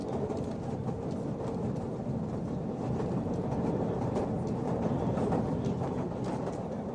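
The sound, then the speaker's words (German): A line 5 tram rolls steadily along its tracks, a continuous rumble with a low rattling drone and faint metallic clatter, holding an even loudness throughout with no voices. “Mit der Linie 5 ist es gut zu erreichen, das Pfarrhaus in Ammendorf”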